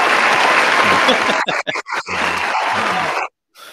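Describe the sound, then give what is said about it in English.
A burst of loud, dense applause from a crowd, broken by a few brief pauses as the clapping thins, then swelling again before cutting off abruptly near the end. “You can hear that applause, obviously, which is good.”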